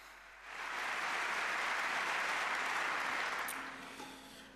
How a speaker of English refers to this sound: We would like to begin with a small word of thanks to the technologists in the house who have made it possible for us to go on so late. Small applause, please, for the technology staff in the house.